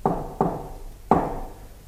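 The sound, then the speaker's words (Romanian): Three firm knocks on a large oak door on a winter evening, two in quick succession and a third after a short pause, each with a dull resonant thud that rings out briefly. “Cum nu răspunse nimeni, ciocăniturile se repetară.”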